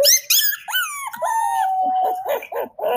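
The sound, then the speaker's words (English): A puppy whimpers: a few high, wavering whines, then one long drawn-out whine that trails into short, breathy yips and snuffles. No one speaks. “And I have a puppy sound that you might be able to translate for me.”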